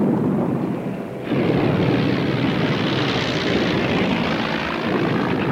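A dense, steady roar of warplane engines passes over a city, loud, jumping in intensity after a second and then droning on continuously with no voices.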